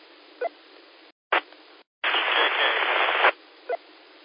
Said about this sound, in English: White noise, but I couldn't really understand what you're saying.